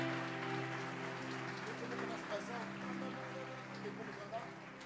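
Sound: audience applauding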